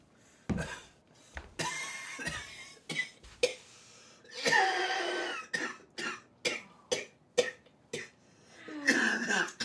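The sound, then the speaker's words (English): A man coughs over and over in a prolonged fit, harsh bursts coming in quick irregular succession, some short and sharp, others longer and raspy, with brief gasping pauses between. “He mustn't cough like that. It's bad for your throat.”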